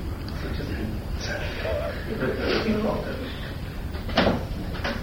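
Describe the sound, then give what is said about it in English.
A door opens with a sharp click of the latch and a brief knock of wood as a porter looks into the room during a poetry reading at a university, followed by another smaller clack, while muffled voices murmur in the background. “a porter puts his head through the door and says something like, "Oh! I didn't know you'd booked this room."”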